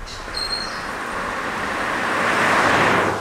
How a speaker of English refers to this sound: There are no shoulders on the highway. Nothing between the migrants and the racing vehicles and long-haul trucks on the road.